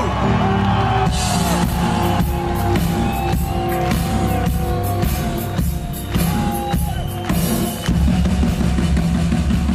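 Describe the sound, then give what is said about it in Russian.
A large crowd roars for their homeland, Russia, with loud, sustained applause, whoops and shouting, a dense, continuous wall of noise that barely dips for about ten seconds. “Я хочу, чтобы мы сейчас все громко, дружно поаплодировали и просто заорали за нашу родину, за Россию!”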